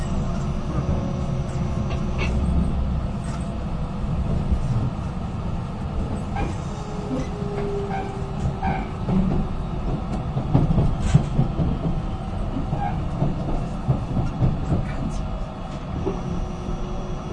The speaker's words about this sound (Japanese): 上諏訪に到着です。2番線到着、出口は左側です。